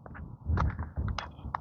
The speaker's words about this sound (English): Hear the grackle.